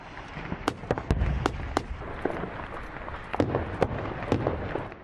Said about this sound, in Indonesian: Bagus diterangi api dan irama tembakan bersama dentuman artileri berat.